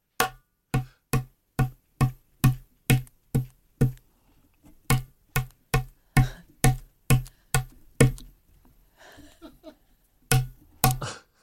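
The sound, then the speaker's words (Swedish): An egg is rapped against a tabletop again and again, about twenty sharp hard knocks in a steady rhythm, with a brief fainter crackle near the end as the shell and the egg's inner membrane break. “Där hör ni i knäcket, va?”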